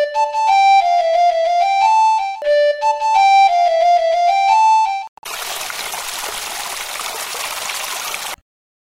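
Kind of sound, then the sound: nature, flowing river water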